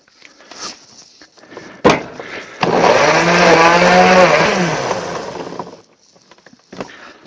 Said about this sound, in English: Oh, and of course, the extra special, super duper secret ingredient, splash of beer. All my ingredients are now in a blender.